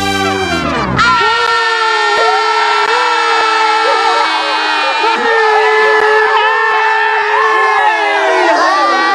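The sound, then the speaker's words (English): A single long, loud horn blast, blown by priests after marching around Jericho, holds steady for several seconds, with a crowd's clamor and shouting mixed in around it. “And just like God said, when they finished marching, the priests blew one long blast, and then all the people yelled.”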